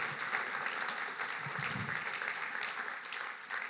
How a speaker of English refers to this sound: let's give him a round of applause for accepting it.